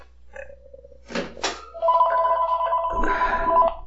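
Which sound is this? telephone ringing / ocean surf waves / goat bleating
telephone ringing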